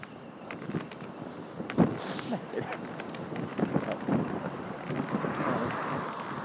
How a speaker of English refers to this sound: Whether you can hear this or not, I don't know, but it is very, very windy.